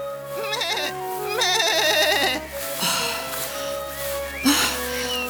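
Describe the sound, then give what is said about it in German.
A goat bleats repeatedly in loud, wavering cries, several calls in a row, as it is driven out into tall grass, with a steady low hum running underneath. “Es trieb die Ziege hinaus ins hohe Gras.”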